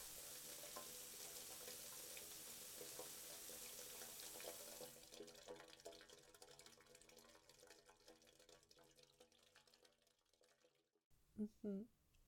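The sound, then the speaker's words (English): Steady hiss of a shower running, bright at first, then duller and more muffled as if behind a wall, with a short burst of a voice near the end. “Nearly done in there? Do you even still have hot water?”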